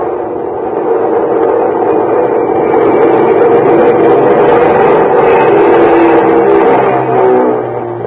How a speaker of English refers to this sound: It was 9:45 on the dot as the big mainliner slowly circled down out of the clear starlit sky.